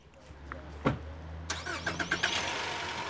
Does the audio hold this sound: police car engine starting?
yes